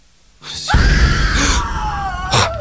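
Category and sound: human body sound, a person screaming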